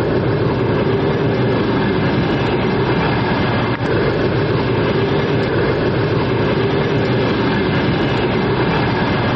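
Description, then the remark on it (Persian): A passenger train arriving at Tursunzoda railway station, 60 km from Dushanbe, Tajikistan, rumbles steadily and loudly, a dense, continuous roar of wheels and engine that holds constant throughout, with no voices heard. “این همون قطاری است که حالا در به اسگاه تورسونزاده آمد و ما حالا در اسگاه راه آهن تورسونزاده 60 کیلومتری شهر دوشنبه قرار داریم”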